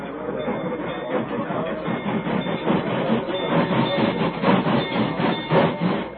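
A train rumbles steadily across a bridge, its wheels clattering in a rhythmic clickety-clack over a heavy, continuous roar that stays loud throughout.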